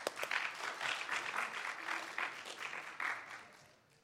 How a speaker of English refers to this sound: How many times did Jesus call Peter to follow him? Twice, okay, good. Give me applause.